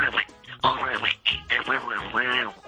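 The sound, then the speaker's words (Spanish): A person does a raspy, nasal Donald Duck voice imitation, quacking speech in several quick bursts with strained, buzzy tone, fairly loud. “A ver, que lo hace usted muy bien, el Pato Donald.”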